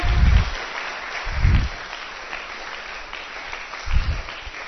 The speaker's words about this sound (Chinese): 啊，谢谢小朋友，掌声持续不断。